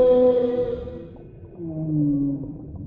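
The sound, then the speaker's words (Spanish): Humpback whale song: a drawn-out, harmonic moan fades away, then a second, lower call slides in and glides downward, resonant and fairly loud, with no voices. “Después de nuestra maravillosa aventura con las ballenas jorobadas”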